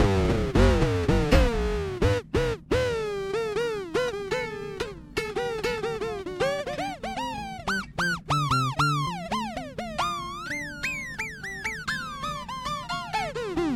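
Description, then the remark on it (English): An electric guitar played through effects pedals, its notes bending and warbling in pitch with sweeping, wobbly modulation over a steady low drone, continuous and fairly loud with no talking. “These are definitely the kind of pedals where you gotta, you know, it's gonna be different everywhere.”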